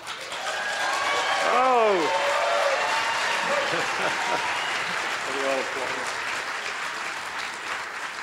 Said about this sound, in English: on Sunday, May 25, a triumphant Dr. Smith placed a call to the Planetary Society's PlanetFest celebration, where 750 fans were waiting to cheer him and his team.